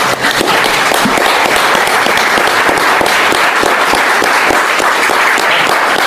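Steady, loud applause from an audience, a dense wash of many hands clapping continuously for several seconds without any talking over it.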